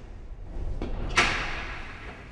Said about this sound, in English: An officer opens the cell door.